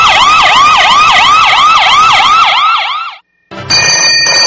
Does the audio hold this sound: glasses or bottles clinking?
no